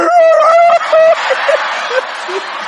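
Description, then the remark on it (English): A man's voice mimics a dog with a run of loud, high yelping barks, followed by a wash of crowd noise and a few fainter yips underneath. “And that dog go,”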